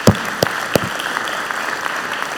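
An audience breaks into applause: a few sharp, separate claps at the start quickly swell into a dense, steady patter of clapping that carries on to the end, with no talking.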